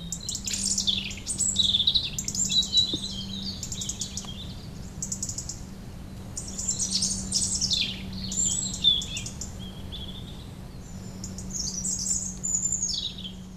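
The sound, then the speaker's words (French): Several birds chirp and trill almost nonstop in lively overlapping bursts, while a faint, steady low rumble of distant traffic hums underneath the whole time. “On entend quoi, les voitures au loin et puis le chant des oiseaux.”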